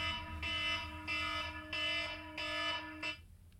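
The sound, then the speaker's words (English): An electronic alarm, set as a reminder for resume work, beeps in a steady repeating pattern, about five loud tonal pulses roughly two-thirds of a second apart, over a constant low hum, then stops abruptly. “Looks like we got a little alarm going off.”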